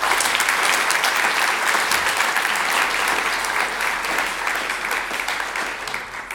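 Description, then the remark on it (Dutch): Sustained audience applause for Dirk Verhofstadt, laureate of the 2025 Vrijzinnig Humanisme prize, a dense wash of many hands clapping at a steady, loud level for several seconds, easing only slightly toward the end with no voices over it. “Graag uw warm applaus voor Dirk Verhofstadt, laureaat van de prijs Vrijzinnig Humanisme 2025.”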